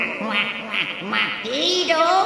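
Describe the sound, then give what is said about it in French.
A goose cackles while clacking its beak in a quick, chattering run of nasal, honking calls, fairly loud, with no pause between them for about two seconds. “Jabote une oie en claquant du bec.”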